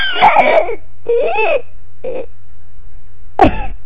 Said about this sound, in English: Wow and stuff, like, that was pretty good, like, I didn't hiccup, like, for the last 10 seconds, and...